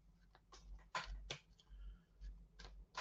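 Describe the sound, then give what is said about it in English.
A deck of tarot cards being shuffled, a string of short papery snaps and riffles coming in quick uneven bursts over a low background hum, with no talking. “We just give it another shuffle. Don't know why I did not feel secure with that shuffle.”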